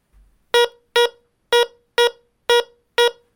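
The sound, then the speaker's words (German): A metal detector sounds off as an iron shell splinter about half a palm in size is passed by its search coil, discriminator at minimum (about level 2): six short, buzzy mid-pitched tones with rich overtones, grouped in three even pairs, each cutting off quickly. A faint low thump precedes them. “Im Gegensatz zu der Münze ist der Ton jetzt etwas voluminöser.”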